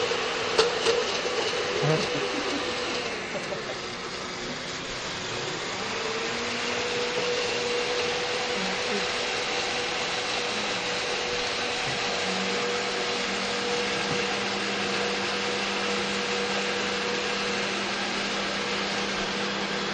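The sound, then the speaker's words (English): A blender runs steadily for the full stretch, blending pitted dates with a little water into a paste, a loud continuous motor whir with a whining tone that shifts slightly in pitch as it churns. “This is good, but it's going to be, I don't know, every blender is different, but usually you want to add less water first and really get it to make like a paste, because this will be still pieces, but it's good for now.”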